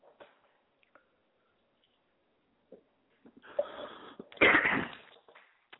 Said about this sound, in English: And let me just get a quick drink of water.